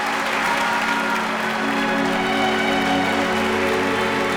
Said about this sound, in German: Es ist geschehen. Ohne Zwischenfälle, ohne Protest. Und das deutsche Publikum überschüttet das israelische Orchester mit Ovationen.